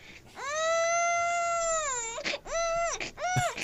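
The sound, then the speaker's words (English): A voice imitates a newborn baby crying: one long, drawn-out wail followed by two shorter, sobbing cries, loud, with no talking. “So you ready for my newborn baby?”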